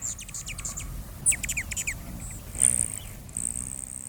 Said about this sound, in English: Among the first migratory birds to return to our area in the spring are the Allans and Rufous hummingbirds, collectively known by their scientific name, Selasphorus, Greek for light-carrying.